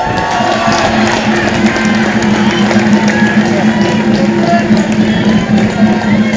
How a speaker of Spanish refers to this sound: Un aplauso mejor.